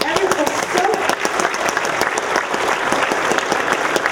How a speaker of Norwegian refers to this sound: Ja, i hvert fall det er blomster og t-skjorter til dere, og en stor applaus både til alle hjelpere og til teatret som har hjulpet oss gjennom disse dagene.